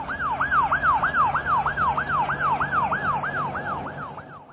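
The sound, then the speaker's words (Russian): A police car siren yelps in fast, repeating rising-and-falling sweeps, loud, with a low engine rumble underneath and no one talking, as the police car drives in through the gates of a palace. “В этот момент полицейская машина въехала в ворота дворца.”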